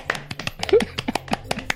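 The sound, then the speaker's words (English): Quick, irregular hand claps, around a dozen sharp slaps in under two seconds, moderately loud with an uneven rhythm, plus a brief vocal sound partway through. “Clap if you want somebody dead.”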